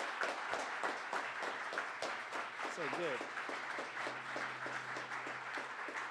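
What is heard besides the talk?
audience applause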